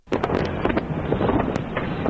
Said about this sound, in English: Independence Day 2010 ending in a blaze of glory in cities coast to coast with fireworks displays such as this one over New York's Hudson River.